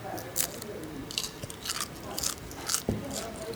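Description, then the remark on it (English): Crisp crunching of fried guinea pig skin being chewed in Ecuador, several sharp crackly bites spaced about half a second apart over a soft background murmur. “It's very crunchy and very greasy, which is always good.”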